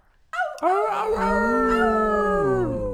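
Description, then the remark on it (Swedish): Several people howl together like wolves as a fourfold birthday howl, long sustained overlapping wails that rise and slowly bend in pitch, loud, lasting a few seconds. “Så vi ger henne ett fyrfalligt ylande.”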